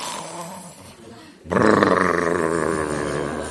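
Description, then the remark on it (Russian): A voice imitates Brahmananda's loud snoring as he sleeps on the floor: after a quieter, murky stretch, a sudden harsh, rasping snort erupts and drags on as one long, rumbling, throaty snore, said to shake the whole hut. “Храп Брамананды.”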